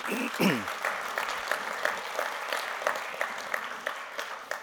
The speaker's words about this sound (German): Vielen Dank für das Referat. Applaus, Dank.